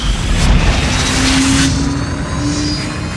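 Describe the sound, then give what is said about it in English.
A rocket launches and zooms into the sky with a loud, steady roar: deep rumbling and broad hissing whoosh sustained throughout, with a faint humming tone riding underneath. No one speaks. “The rocket zooms into the sky. The rocket zooms to the stars.”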